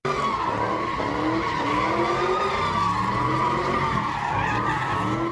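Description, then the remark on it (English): Car tires squeal in a long, continuous skid as cars spin donuts and smoke up the street at a night-time sideshow at the intersection of Sebastopol Road and West Avenue, Roseland neighborhood, Santa Rosa; a loud, wavering screech over engine roar that fills the whole stretch without pause. “Cars did donuts and smoked up the street at the intersection of Sebastopol Road at West Avenue.”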